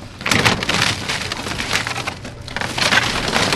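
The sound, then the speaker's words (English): A track hoe clears tornado debris from a neighborhood in Joplin, Missouri, crunching and splintering wood in a steady, dense crackle, with louder bursts of snapping near the start and end. No one speaks. “A track hoe clears debris from a neighborhood in Joplin, Missouri, or what used to be a neighborhood, I should say.”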